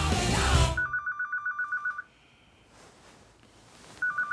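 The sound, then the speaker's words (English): A mobile phone rings from inside a handbag, a rapid warbling electronic trill in a burst, a pause, then ringing again, after a short burst of rustling noise. “As Kim heads to the toilet, her phone is ringing in her handbag”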